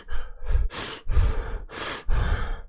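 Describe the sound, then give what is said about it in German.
Heavy, rapid panting breaths of a person sitting and cutting cucumbers in a kitchen, roughly five or six quick inhales and exhales alternating in a steady rhythm, loud and breathy with a hissing edge, with no talking. “wenn ich nur da sitze und Gurken schneide und mich anhöre wie eine Dampflok.”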